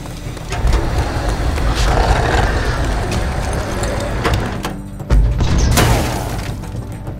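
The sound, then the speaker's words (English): Pipe bombs going off behind a fleeing vehicle: several sharp blasts and crashes burst through the loud, steady roar of a speeding engine, with the last big explosion near the end. “Throw these out the back! The pipe bombs?”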